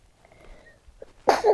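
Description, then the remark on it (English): A child sneezes once: a soft intake of breath followed by a sudden, loud, breathy burst that cuts off the near-silence. “Bless you, sweetie.”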